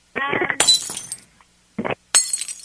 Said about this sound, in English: Okay, I'm going to keep throwing the candles on the floor really hard.